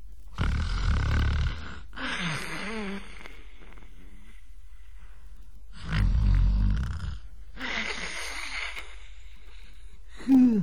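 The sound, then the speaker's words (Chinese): A man's voice imitates the loud, thunderous snoring of Lu Zhishen: two big rattling snorts, each trailing into a wheezing, whistling exhale, with a pause between and a third snore just starting at the end. “这呼噜稀如撼天雷，呼如涨潮水。”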